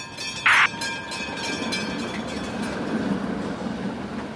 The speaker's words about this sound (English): You're rolling on a Castro Street streetcar. Once again, ladies and gentlemen, San Francisco is our final stop today.